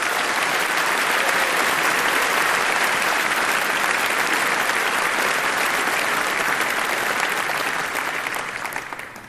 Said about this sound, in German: Und ich bitte euch nochmal auf einen richtig großen, artigen Applaus